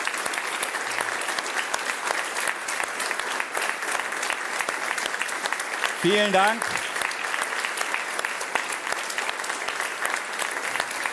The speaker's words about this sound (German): Das ist euer Applaus